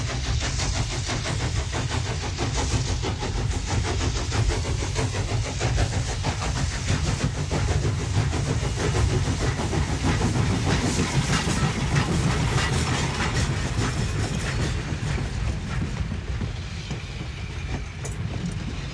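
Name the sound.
train running on rails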